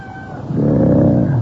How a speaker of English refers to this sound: Oh, poor kitty. You hungry? Poor bloody animals have to survive on the garbage that floats in on the tide. It's a real shame.